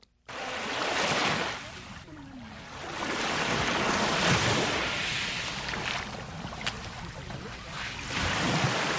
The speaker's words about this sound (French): Des vagues matinales embrassent la plage du lac Tanganyika à Kajaga, dans la commune de Mutimbuzi, en province de Bujumbura rurale.